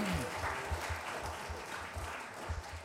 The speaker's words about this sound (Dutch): Zullen we trouwens de muziekteams even een applaus geven? Ze hebben het fantastisch gedaan.